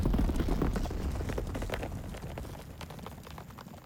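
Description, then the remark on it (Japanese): A flock of sheep bolts away as a person approaches, dozens of hooves drumming in a dense, rumbling patter that slowly fades as the animals move off. No one speaks. “群れごとダッシュで逃げたんだけど。”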